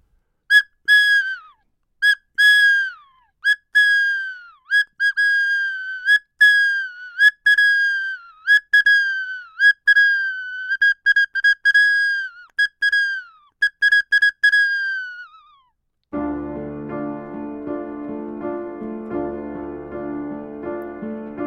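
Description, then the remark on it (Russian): A toy whistle or pipe (a dudochka or svistulka) is blown in a pause between breathing songs, in a long run of short, shrill toots, some with falling pitch bends, loud, before soft instrumental music takes over near the end. “В паузах между дыхательными песенками можно поиграть на дудочке или посвистеть на свистульке.”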